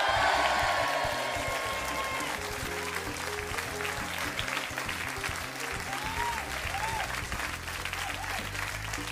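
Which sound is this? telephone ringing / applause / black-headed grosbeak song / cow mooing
applause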